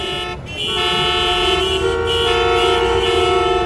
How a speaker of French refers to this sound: C'est alors une région tout entière qui se retrouve figée dans un bruit de klaxons et de moteurs tournant à vide.